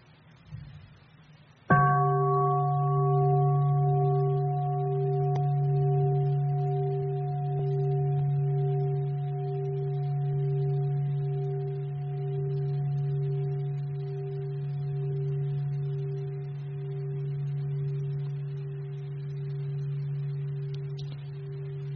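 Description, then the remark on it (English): A single deep meditation bell is struck once during a Buddhist talk, then its low, steady tone hums and resonates for a long time, slowly sustaining without fading away, with no voices. “during the talk, if you listen, if you hear the sound of the bell, we go back to our conscious breathing.”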